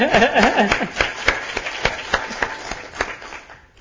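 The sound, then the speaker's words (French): A short burst of applause from a small group for the scribe, with sharp irregular claps that start dense and thin out to a few scattered slaps before fading over about four seconds. “Un autre applaudi pour notre scribe.”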